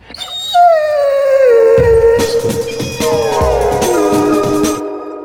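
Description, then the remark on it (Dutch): A dog lets out a long, drawn-out howl that slides slowly downward in pitch, sustained for several seconds, loud, with some breathy scuffling underneath and no talking. “Dat is precies hoe ik mijn hondje wil.”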